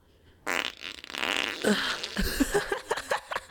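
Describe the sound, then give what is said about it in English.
A long, wet fart sputters for about three seconds, starting as a loud airy blast and breaking into bubbly, spluttering pops near the end, with no voices. “Oh, that sounded a bit wet.”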